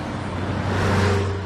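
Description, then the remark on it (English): A coach bus drives along a two-lane rural road, its engine giving a steady low drone over a continuous wash of tire and road noise that swells slightly midway, with no voices. “It drives on a two-lane rural road.”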